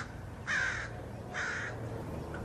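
bird, crows cawing

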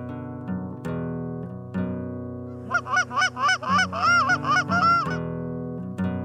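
bird, snow geese honking

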